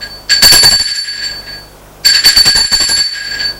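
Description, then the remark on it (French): An electric doorbell at an apartment door rings twice, a short shrill burst followed by a longer rattling ring after a brief pause, loud with no voices. “Sonne à la porte de l'appartement de droite.”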